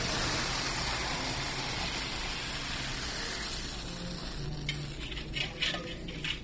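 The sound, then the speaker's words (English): A thick, hot fudge mixture of corn syrup, cream and chocolate, cooked to 232 degrees in a big copper kettle, pours steadily onto a marble slab into a frame with a soft, continuous sizzling hiss, followed near the end by a few light clinks and taps of utensils. “When it gets to that temperature, we bring it out and we pour it here on the marble slabs into this frame.”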